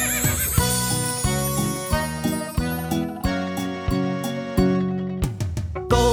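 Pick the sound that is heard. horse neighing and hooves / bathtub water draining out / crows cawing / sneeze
horse neighing and hooves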